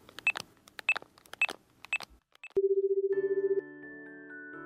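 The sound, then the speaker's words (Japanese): A call to a friend placed on speakerphone: a few quick electronic phone beeps, like numbers being dialed, followed by a rapid pulsing ring tone and then a steady electronic tone, heard over the phone's speaker with no one talking. “今一番仲がいい子にかけてみて。スピーカーにしてね。”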